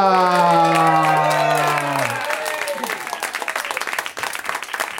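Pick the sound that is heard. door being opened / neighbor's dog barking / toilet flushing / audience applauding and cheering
audience applauding and cheering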